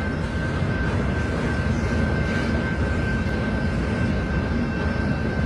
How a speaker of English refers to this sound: This is literally maybe a fourth of the train that's went by before I got here. This is a big train, and that is a lot of military equipment, folks.